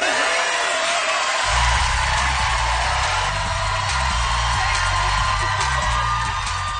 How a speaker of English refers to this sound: Because the South Park show, the audience was clapping on at the end of that clip, and her audience live was clapping along with it.